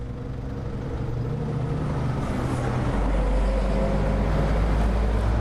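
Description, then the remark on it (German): Steady, dense city traffic rumbles at a large roundabout by the town hall, with engines droning and a deep low-end hum that swells midway as a heavier vehicle passes; no voices. “Am großen Verkehrskreisel steht das prächtige Rathaus.”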